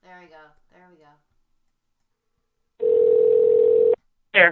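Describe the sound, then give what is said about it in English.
A steady telephone dial tone hums for about a second while callers are being redialed, preceded by brief speech and followed by a short burst of voice. “So I'm going to call everybody right back.”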